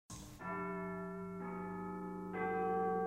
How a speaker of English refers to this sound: Then he heard a church bell ringing. It was midnight. I know that bell. It's St. Thomas's Church.